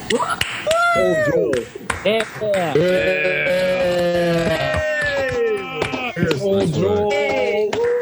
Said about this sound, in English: Thirsty Thursday gang, I'm going to unmute you all. Let's make some freaking noise.